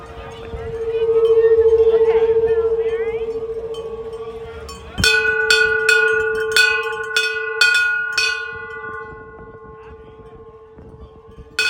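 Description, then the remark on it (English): A steady droning tone fills the first few seconds, then a finishing hand bell is rung back and forth, about eight bright clangs in quick succession with a lingering metallic ring. “You want to ring the finishing bell?”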